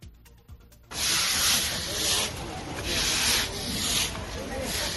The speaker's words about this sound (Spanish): pero toca trabajarlo, es como lo estábamos escuchando, ¿no? Esos cepillos, cómo estaban limpiando el suelo.